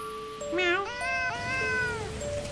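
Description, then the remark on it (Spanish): A kitten meows insistently at the door of its owner's room in a few drawn-out, wavering cries, the pitch rising and bending, fairly loud against a quiet background with no talking. “Por eso el gatito no lo ve hace varios días”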